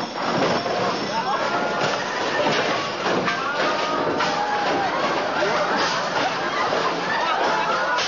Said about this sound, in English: As soon as he opens it, of course, all of its contents come spilling out in a cacophonous avalanche of carefully calibrated Foley artist debris.